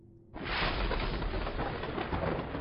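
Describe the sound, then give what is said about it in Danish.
A lightning strike: a sudden, loud crack of thunder bursts out of near silence and rolls on as a sustained, rumbling roar that stays heavy and steady to the end. “Et lyn slår ned med et brag.”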